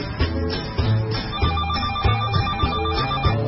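A short musical theme jingle opening the phone-in segment of the show What the Hell, with a bouncy, repeating bass line and a telephone bell ringing over it in regular bursts, loud, with no talking.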